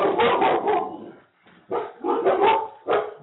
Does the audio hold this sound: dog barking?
yes